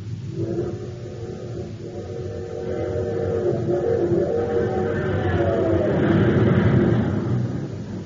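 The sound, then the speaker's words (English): The Terra City Express train, running on super fuel, roars and speeds up, its droning, humming engine tones climbing steadily in pitch and growing louder over several seconds, with no voices. “But now listen to that same train with super fuel in its tank.”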